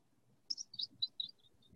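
A bird in a forest chirps in a quick run of six or seven high, thin tweets that fade toward the end, fairly faint against a quiet background with no talking.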